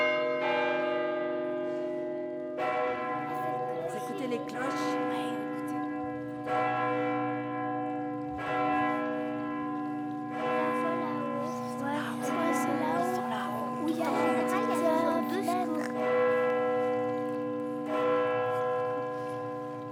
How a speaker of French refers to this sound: Notre vie était rythmée avec les cloches parce qu'à ce moment-là, l'école commençait à des heures fixes. Donc, on savait que s'il sonnait l'heure, on était déjà en retard. Moi, je ressentais très fort cette sonnerie de cloches qui nous appelait